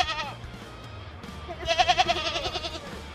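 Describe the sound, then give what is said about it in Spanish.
A goat bleats in a wavering, quivering cry, with a softer call at the start followed by a louder, pulsing bleat that trembles rapidly before fading, with no talking. “Y dice: ah, sí, había una cabra atada a la piedra.”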